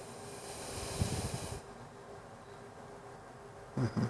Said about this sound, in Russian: Вдох через рот, выдох через одну ноздрю. Вдохнули, смотрите.